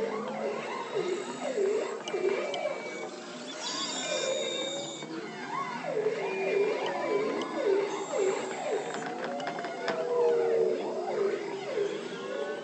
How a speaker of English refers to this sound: And the trills of bearded seals, the knocks of walrus, and even the high squeaks of belugas. And in listening to these different sound sources, sometimes they all occur at the same time.